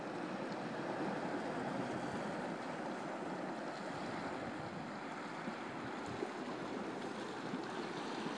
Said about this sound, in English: And all around me, and everywhere I hear, and everywhere I smell, and everywhere I look, is the North Sea.